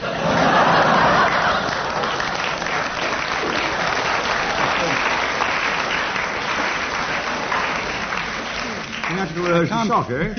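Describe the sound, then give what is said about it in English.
A show audience claps loudly and steadily throughout, mixed with scattered laughter, and a voice breaks in near the end as the applause continues underneath. “Lady in the front row winced and clapped at the same time.”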